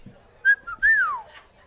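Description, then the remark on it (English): A person whistles an imitation of a golden oriole's call: a short clear note, then a longer fluty phrase that rises slightly and slides downward, fairly loud and unaccompanied by speech. “Golden Oriole? Golden Oriole.”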